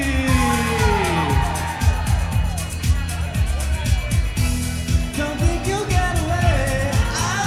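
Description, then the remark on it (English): A packed crowd fills the Salt Shed venue for the world's largest karaoke event, with a dense, steady roar of overlapping chatter and voices and low rhythmic thumping running underneath throughout. “Okay, I'm making my way through the crowd here. It's starting to get a little more packed. It's starting to fill up.”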